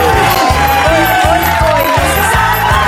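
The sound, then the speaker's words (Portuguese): Loud, continuous audience applause and cheering as the "charadinhas do Rabon" riddle segment begins, a dense wash of clapping that holds steady throughout, layered over a thumping rhythmic beat pulsing about twice a second. “Mais aplauso.”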